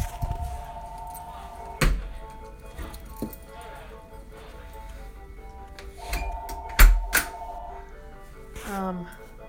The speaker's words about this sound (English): And our phone's ringing. Anyway.